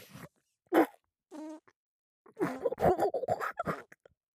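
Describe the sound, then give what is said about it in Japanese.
A short, sputtering fart bursts out, followed by a brief groan and a longer stretch of strained, breathy vocal noises. “おなら出た。”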